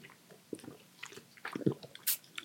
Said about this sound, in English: Let's do sips first, then we'll talk about it.